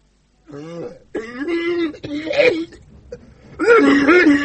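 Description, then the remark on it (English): A mother coughs, spits and clears her throat in several loud, rasping bursts, with a short pause before a final heavy, phlegmy cough. “Mum, Mum's coughing. Mum's spitting.”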